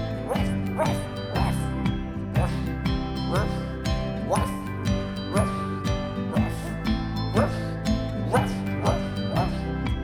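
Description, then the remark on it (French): A small dog's yappy barks repeat in a steady rhythm, set inside a loud, dense musical backing that plays throughout. “En team à un petit chien, en team à un petit chien. Il est waf, il est ouf, et c'est son meilleur copain.”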